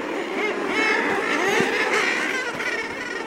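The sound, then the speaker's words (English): A dense chorus of common murre calls, from a seabird that can fly underwater: harsh, growling cries overlapping continuously as if from a crowded seabird colony, steady and fairly loud throughout with no pauses. “Yet among the nearly 10,000 bird species worldwide, only a few dozen can fly underwater. The common murre is among them.”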